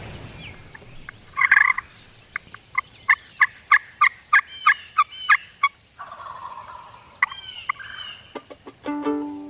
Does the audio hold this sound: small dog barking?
no